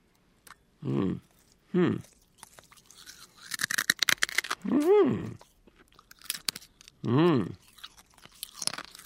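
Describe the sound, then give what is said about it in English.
Crunching and chewing of glass, sharp cracking bursts between muffled chews, with a few short voiced grunts or hums breaking in between the bites. “I'm the one eating glass.”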